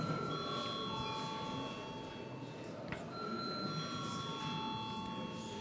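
parliament chamber bell rung

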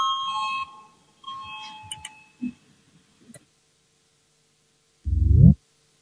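parliamentary voting bell ringing

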